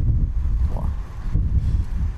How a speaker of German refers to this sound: Oh, jetzt kommt gerade Wind.